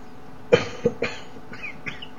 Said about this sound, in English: Actually trying not to cough because I can't mute the webcam